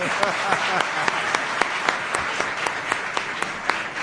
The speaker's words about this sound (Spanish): Vamos a darle un aplauso, no te lo esperaba.